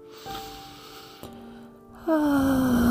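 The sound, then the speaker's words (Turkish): A soft, steady hum of sustained tones plays, then in the last second a loud, breathy whoosh of air is pushed out through the mouth, a long audible exhale over the background tones, following a deep breath in through the nose during a breathing exercise. “Derin bir nefes al burundan, ağızdan, sesli bir şekilde ver nefesini.”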